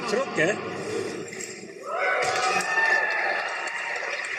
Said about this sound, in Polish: Jak widać na nagraniu, wierni zareagowali na pokaz entuzjastycznie, burzą oklasków.